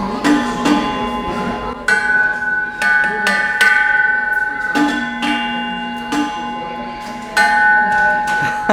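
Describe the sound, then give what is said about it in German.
An umbrella clinks against a metal coat stand in a café, about eight sharp, irregular taps, each leaving a bright, bell-like ring that hangs on between strikes. No one speaks. “Dann wollte ich den hier in das Gestell reintun und schon klingt es.”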